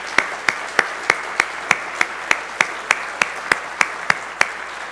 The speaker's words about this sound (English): I also want to give a special welcome to those people that I have not seen this year. So thank you very much for being here. Let's applaud these marvelous guests, okay?